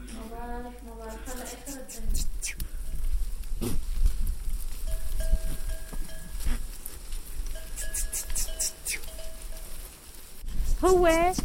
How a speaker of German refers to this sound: Wenn er so ruft, kommen alle zu ihm. Er ist der Chef. Der Ziegenchef.